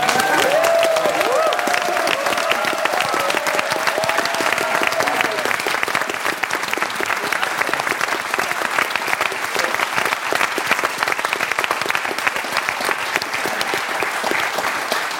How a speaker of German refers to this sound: Das hier ist euer Applaus, denn ihr macht das fantastisch.